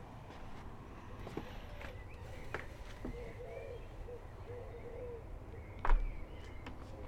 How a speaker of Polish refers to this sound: Wyszedłem na balkon, trochę słychać ptaki, możliwe, że coś się nagra. Jest już wieczór generalnie, jest trochę chłodno, więc wiadomo, że jest trochę ciszej.